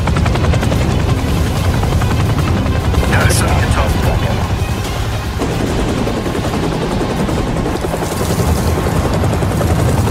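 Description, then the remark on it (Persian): A helicopter approaches, its rotor thumping loudly and steadily throughout in a continuous chopping drone, with indistinct voices partly buried beneath it. “کسایی که دارم با اون بالگرد میان فکر نمی کنم قصدشون کمک باشه.”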